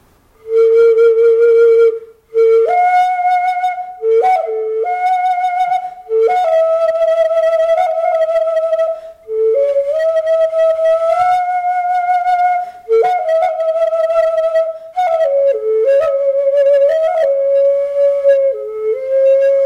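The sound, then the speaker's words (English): A Maya owl-shaped clay flute plays a bright, whistling melody that steps up and down between a few mid-high notes in long, sustained phrases broken by brief pauses, with no talking. “This one is a Maya flute too. It's an owl. I'm gonna play it.”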